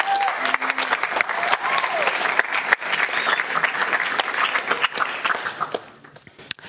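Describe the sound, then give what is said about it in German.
A crowd applauds steadily with dense, crackling claps and a few faint cheers mixed in, holding strong for about five seconds before tapering off quickly, as someone is called to the front. “komm mal nach vorne, dicken Applaus.”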